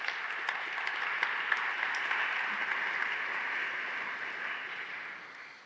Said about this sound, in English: I'm so glad you did that. I have a red note that says pause for applause.